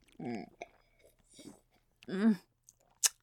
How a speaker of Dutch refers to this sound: Oh, ik krijg er gewoon dorst van. Ik neem nog 1 slokje moment.